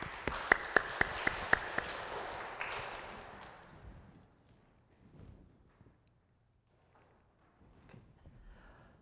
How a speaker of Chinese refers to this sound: 我们感谢我们的敬拜团，还有诗琴，还有后面的音响投影同工，还有特别是我们的提摩太团契献诗，好不好？我们用掌声来给他们感谢。